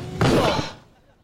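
A heavy countertop is set down onto a cabinet with one loud, dull thud and a short scraping slide, then the sound quickly dies away.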